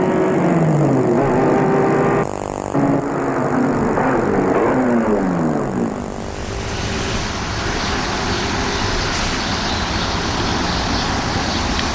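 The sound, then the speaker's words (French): A car engine revs and shifts pitch as it drives by, then its tone cuts out after about six seconds as the car stops in front of an apartment building, leaving a steady wash of street noise. “Il a arrêté la voiture devant l'immeuble.”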